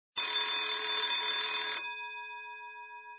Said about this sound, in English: She ran all the way to school. She could hear the school bell already.